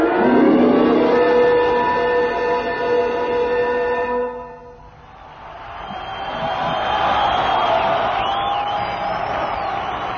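A sustained, loud roar of crowd applause and cheering in Adelaide in 1964, welcoming a touring band, swells up with scattered high-pitched screams and whistles, following a few seconds of tonal music that fades out.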